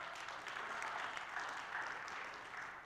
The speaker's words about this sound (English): Go ahead, if you're going to clap, clap.